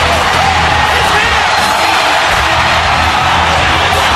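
A huge wrestling arena crowd roars and cheers at full volume as Steve Austin's glass-breaking entrance hits, a dense, unbroken wall of noise with scattered whoops and yells rising out of it for several seconds.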